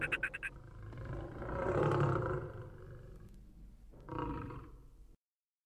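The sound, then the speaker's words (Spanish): A lion gives a deep, rumbling roar that swells and fades, followed by a shorter second roar, with a quick burst of grunting pulses at the start. Loud, no talking. “La villa donde vivían era lo suficientemente grande para que todos los animales, después de ser traídos de los pastizales, fueran resguardados por la noche mientras los leones y las hienas merodeaban en las afueras de la villa.”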